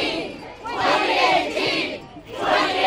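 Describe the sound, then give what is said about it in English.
A protest crowd at the bottom of the US House steps, right after the vote on the American Health Care Act, chants "Shame on you!" and "2018!" in unison as Republicans board buses; a loud, repeated shouted phrase rising and falling in rhythmic swells, with raised voices blending into a dense roar between each chant. “Taunts of shame in 2018 as Republicans got onto buses to go celebrate with the president over at the White House.”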